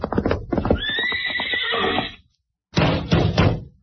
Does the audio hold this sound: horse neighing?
yes